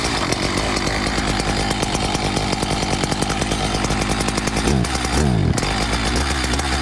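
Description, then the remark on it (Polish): A chainsaw, used by a forestry sawyer, runs loud with a steady, buzzing engine drone, its pitch briefly dipping and surging near the end as the throttle changes. No voices. “Pracownik leśnika to oczywiście pilarz, czyli pan od piły łańcuchowej.”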